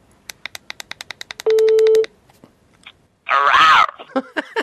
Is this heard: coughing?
no